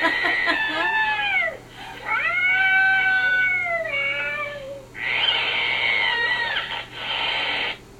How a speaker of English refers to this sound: Try another one. Try Angry Cat. Angry Cat.